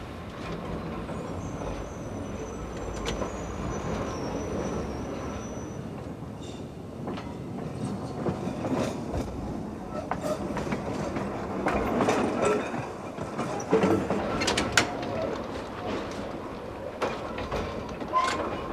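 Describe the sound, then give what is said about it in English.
A trolley car starts off after two bells and rolls along its rails with its driver at the controller: a steady rumbling drone, scattered clicks and clatter from the wheels, and a thin high whine early on; voices can be heard faintly. “If something happens to me or I let go of the controller, the car goes into emergency and stops all by itself.”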